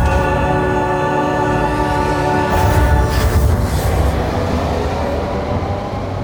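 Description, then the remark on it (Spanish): A subway train roars steadily through a station of the Santiago Metro, its heavy low rumble mixed with rattling wheels and a layered mechanical hum that swells midway and then holds on. No one speaks. “¿Escuchan el rugir de esa máquina? Ese es el sonido del progreso, camaradas.”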